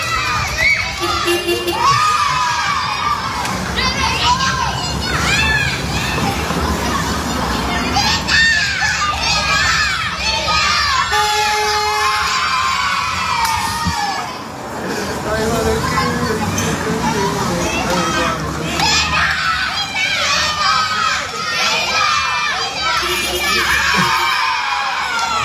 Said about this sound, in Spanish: Absolutamente evocador. Niños jugando en la calle. Niños siendo niños sin sensación de peligro, sin amenazas. Niños siendo libres, plenos y felices con el simple hecho de disfrutar de su inocencia, de su energía y del aire en la cara.